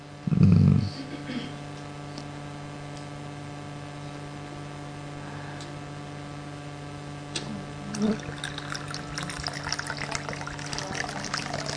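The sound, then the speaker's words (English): Water pours into a container with a steady, splashing trickle over the last few seconds, set against a constant electrical hum and a brief low thump near the start. “Yeah, yes, but what was the water doing? Pulling, you know everything, pulling in the thing.”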